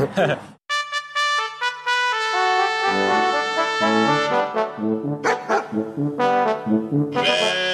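Several sheep bleat in overlapping, wavering cries, one call running into the next with hardly a pause, loud and clear with no talking.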